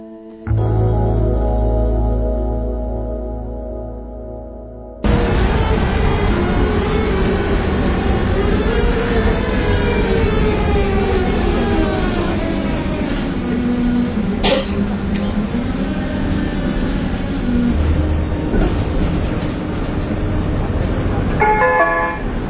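A Prague tram rumbles steadily through busy city streets, its wheels squealing and motor whining in rising and falling tones, after a short tonal horn-like blast at the start.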